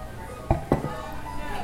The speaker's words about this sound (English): We're at a restaurant, so you're going to hear ambiance